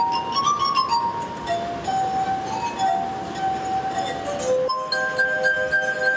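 Glass harp music played on rubbed crystal glasses holding water: sustained, pure ringing tones glide between pitches in a slow melody, clear over a faint hiss of background noise.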